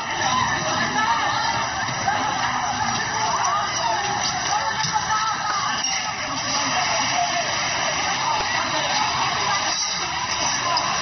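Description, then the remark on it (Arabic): The suicide bomber's car passes along a street, followed by an empty passenger bus, as captured by the Sub Stop restaurant's surveillance camera. Their engine and road noise blend into one steady, fairly loud rumble that carries on unbroken for the whole stretch. “مرت سيارة الانتحاري وخلفها حافلة ركاب خالية.”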